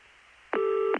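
A single steady electronic telephone tone, like a dial or busy beep, sounds for about half a second, clear and fairly loud, with no one speaking.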